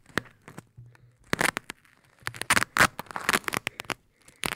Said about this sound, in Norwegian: Hallo, jeg må liksom ta av teipen. Ja, ta av teipen fra mikken da.